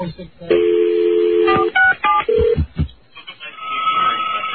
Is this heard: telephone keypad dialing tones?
yes